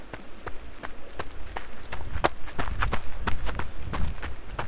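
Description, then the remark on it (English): Quick, steady footsteps of a woman walking across a river crossing on a trail along Rio Electrico splash through shallow water, each stride a crisp slap over a low rushing rumble, continuous throughout with no voices. “Arriving at the river crossing, she was able to walk across.”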